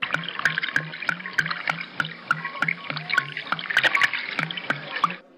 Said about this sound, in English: I guess I'll just drink some of my water.